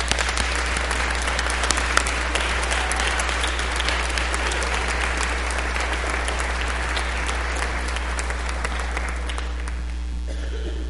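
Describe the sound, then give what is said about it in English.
Kids in a crowd applaud their teachers, youth advisors and supporters, clapping steadily for about eleven seconds in a dense, even wash of many hands at a constant level, tapering slightly at the end, with a low steady hum underneath. “Youth advisors, anybody that bought Girl Scout cookies, Boy Scout popcorn, stand up and let's have the kids give them applause too, because you've been a big part of this.”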